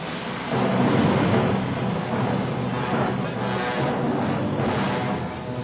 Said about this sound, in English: We are now aboard the Orient Express, one of the great trains of Europe. In its heyday, the Orient Express traveled 1,400 miles from Istanbul to Belgrade, Yugoslavia, Venice, Milan, Lausanne, and Paris.